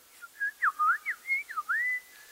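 Birdsong at sunset in spring, around 7 p.m., in mild temperature: a quick run of about eight clear, whistled notes, swooping up and down in smooth glides at a mid-high pitch, moderately loud with no talking.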